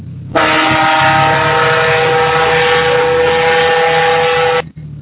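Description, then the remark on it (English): A red Dodge pickup truck's air horn blares in one loud, steady, chord-like blast lasting about four seconds, heard alone before cutting off abruptly. “Is that your air horn cool. On that red Dodge?”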